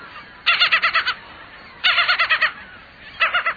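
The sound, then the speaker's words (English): Gull calls ring out in three bursts, each a quick series of six or seven harsh, squawking notes, loud and clear with no talking, separated by short pauses. “Although a fixture on many beaches, most gulls aren't truly seafaring birds.”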